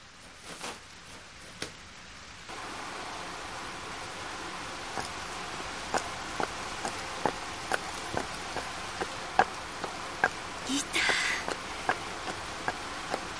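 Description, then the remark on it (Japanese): Steady rain hisses down after a quiet start, with regular sharp drips and taps landing throughout, and a brief rustling swell near the end. “傘、雨に濡れて風邪をひくといかんけん帰ってください。”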